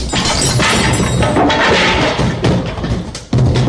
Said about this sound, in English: United States Military Police, open up! United States Military Police, open this door! break it down!